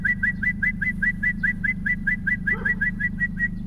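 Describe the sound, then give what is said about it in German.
A man whistles a rapid, evenly spaced string of short chirping notes imitating a bird call, steady, over a low continuous rumble; a brief answering bird call slips in near the end. “Unzählige Vogelstimmen kann er perfekt nachahmen. Und die Antwort kommt meist prompt.”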